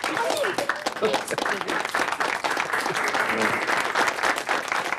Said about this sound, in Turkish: Alkışlarınız